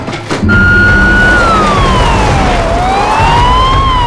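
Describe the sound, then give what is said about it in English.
A police siren wails loudly, its pitch sliding slowly down and then back up over a steady rumble of engine and road noise as two police cars pull up outside. “Outside, two police cars pull up.”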